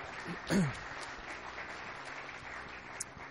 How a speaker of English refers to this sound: Thank you. How about a big round of applause for everyone who's helping out?